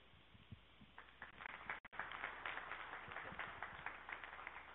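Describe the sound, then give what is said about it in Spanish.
An audience applauds a panel steadily, a dense wash of many hands clapping at once that holds at an even, moderate loudness throughout, with a brief dropout partway through. “Bueno, yo les pediría todavía un aplauso más fuerte aquí al panel.”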